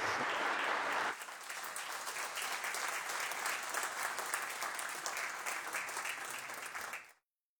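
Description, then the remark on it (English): People in a legislative chamber applauding steadily for about seven seconds to welcome a visiting guest from Yokohama, Japan, the clapping dense and sustained at even volume before stopping abruptly. Nobody speaks over it. “It is always a pleasure and a privilege to have our friends and colleagues from the great nation of Japan with us, and if we could all give him a round of applause and welcome into our chamber.”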